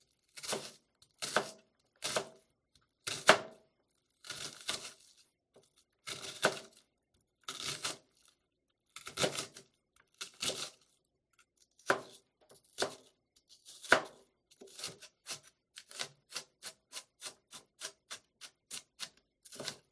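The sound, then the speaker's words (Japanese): A knife taps sharply against a cutting board while mincing an onion, in uneven bursts that settle into a quicker, steady run of chops near the end, with no voices. “みじん切りはこうやって切っていくんだよ。”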